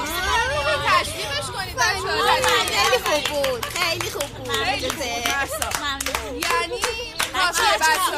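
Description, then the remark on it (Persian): A group of children in a classroom clap steadily and unevenly for several seconds, applauding their class monitor, while excited young voices chatter and call out over the applause. “میدونم که میخواین مبصرتون رو تشویق کنید.”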